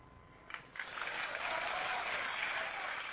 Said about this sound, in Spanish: Tengo la ventana abierta mientras aplaudimos, porque es verano, hemos decidido que es verano con un sol amarillo en Sayago.